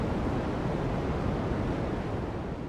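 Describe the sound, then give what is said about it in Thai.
Continuous radio static hiss of the cosmic microwave background, leftover radiation from the Big Bang 14 billion years ago, picked up by the Arecibo Observatory listening to empty space between stars: a dense, even rushing noise with a deep rumbling undertone, steady and fairly loud throughout, with no voices or breaks. “นักดาราศาสตร์เรียกเสียงนี้ว่ารังสีไมโครเวฟพื้นหลังของจักรวาลมันเป็นเศษซากของการแผ่รังสีจากบิ๊กแบงการระเบิดที่เป็นจุดกำเนิดของจักรวาลเมื่อ 14,000 ล้านปีก่อน”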